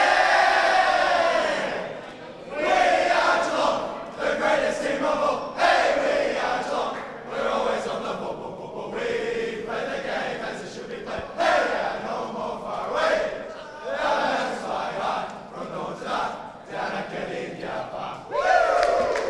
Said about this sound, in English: Yes, the boys have just come in, obviously sung the song